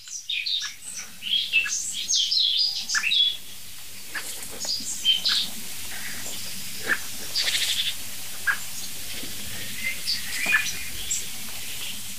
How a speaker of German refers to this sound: Es nervt im Augenblick wirklich nur die Amsel, so wirklich. Und die Meise mal ganz kurz zwischendurch.